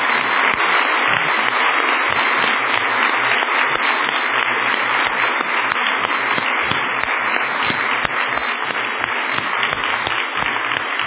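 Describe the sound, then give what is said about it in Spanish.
A church audience breaks into sustained applause given to Jesus, dense and steady at a loud, even level for about eleven seconds, with countless overlapping claps and no voices standing out. “Un aplauso a Él.”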